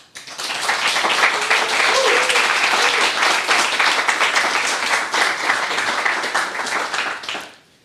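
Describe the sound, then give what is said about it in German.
An audience applauds steadily for several seconds at the 100th Datengarten event at the Chaos Computer Club Berlin, welcoming two guests; a dense, even wash of many hands clapping at full volume before fading out quickly at the end. “und zu unserer 100. Ausgabe möchte ich einen großen Applaus”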